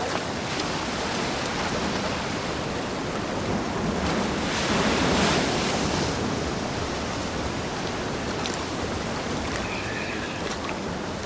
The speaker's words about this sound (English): If you see anything, shout. It's going to be hard to hear anything over the waves.